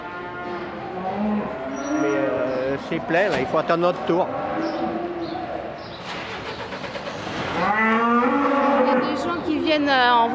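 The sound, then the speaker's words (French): Cattle, three calves plus three cows and calves, moo repeatedly and loudly inside a livestock truck, their long wavering calls overlapping, while people talk briefly in the background and an engine rumbles low underneath. “Il y a trois veaux à lui, là dans le camion, et j'ai quatre bêtes en plus. Trois vaches et des veaux.”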